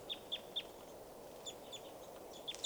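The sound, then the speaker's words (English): A flock of at least 30 birds coming down for water flutters about, sending out a steady scatter of short, high chirps over a soft outdoor hiss. No one speaks. “And the birds are just fluttering and flying.”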